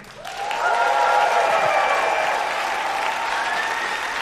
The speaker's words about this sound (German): Bitte begrüßt mit einem tosenden Applaus Lena Kupke.